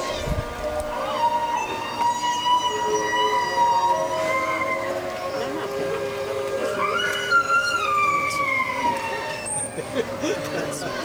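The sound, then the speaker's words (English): Underwater sounds picked up by a hydrophone, what whales hear underwater while the whale Candu is rolled over: overlapping high, wavering tonal calls that rise and fall in pitch, layered over a steady hiss and low rumble, continuous for the whole stretch. “through the use of a hydrophone, we can roll Candu over and actually hear what the whales are hearing underwater.”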